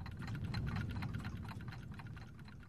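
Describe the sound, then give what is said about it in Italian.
A fast, steady ticking of a clock, sharp light clicks repeating evenly over a continuous low rumble, moderately loud, with no voices. “Per esempio, qui si indorano gli orologi che misurano il tempo e dicono tutto cambia.”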